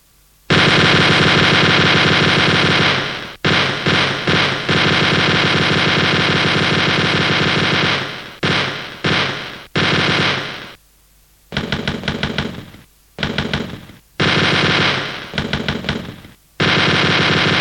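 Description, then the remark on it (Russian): A machine gun fires loudly in long, sustained bursts of rapid shots, then breaks into shorter bursts separated by brief pauses before a final stretch of continuous fire, played as a machine-gun solo within a song with guitar. “Соло для пулемета с гитарой.”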